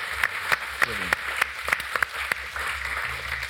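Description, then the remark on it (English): A short round of applause from a few people: sharp, crisp claps at a fairly steady rhythm, about three per second, with a brief murmur of voice under them. “Round of applause.”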